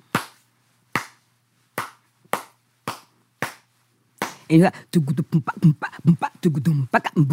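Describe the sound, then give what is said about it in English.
Six sharp hand claps beat out a slow, steady rhythm, clapping out the cowbell part of a traditional rhythm called a chow, then a voice joins in with quick rhythmic vocalizing mixed with more percussive hits. “Can you just clap out what that rhythm would be like?”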